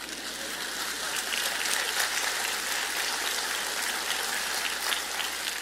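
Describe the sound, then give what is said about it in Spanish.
A crowd applauds steadily for several seconds, a dense, even wash of many hands clapping at a constant loud level with no voices on top. “¿Por qué no aplaude?”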